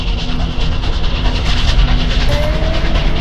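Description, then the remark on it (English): A train rumbles loudly and steadily along the rails high up in the mountains as the engineer opens the throttle to outrun an avalanche, a dense continuous roar with rhythmic clatter and a faint high whine rising briefly near the end; no one speaks. “He opens the throttle. The train is now in a life and death race.”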